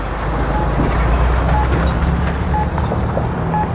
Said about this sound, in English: That truck ain't flying up there. I ain't trying to. You driving like a maniac. Slow down, buddy. These trucks are flying out here like they've done it before.